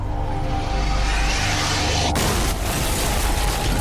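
A large explosion, suspected to be a bomb inside the building, at the FBI office at 7:45 in the evening on the night before Halloween, booms amid a loud, continuous low rumble, with a sharp blast about halfway through followed by heavy, intense roaring noise.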